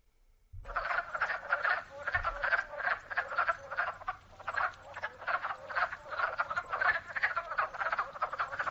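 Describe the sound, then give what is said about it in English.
A dense chorus of wood frogs and spring peepers calling together, a steady stream of rapid clucking croaks from the wood frogs mixed with higher peeps, continuous throughout with no voices. “This is the wood frog and spring peepers.”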